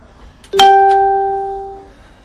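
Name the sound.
doorbell ringing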